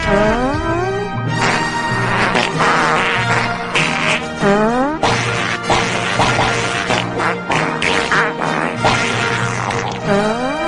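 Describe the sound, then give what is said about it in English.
A song performed with flatulence: buzzy fart blasts that bend and slide in pitch, riding over a steady low backing. Loud and continuous, with no talking. “They would actually fart a whole song.”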